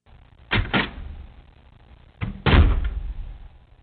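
A door bangs shut twice in quick succession, each closing a loud, sharp thud with a short rattle, with no voices.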